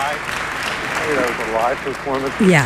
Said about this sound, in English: Okay, so that obviously has the audience applause, which is beautiful.